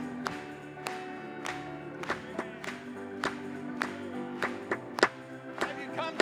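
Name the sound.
audience applauding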